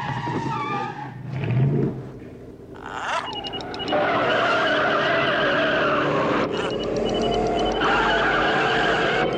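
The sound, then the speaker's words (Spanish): Motor racing: race car engines roar loudly and continuously while tires skid and squeal, building into a sustained, high-energy rush of motor and screeching rubber that carries through to the end. “Sentí la adrenalina del automovilismo en Radio Provincia. Motores 1270.”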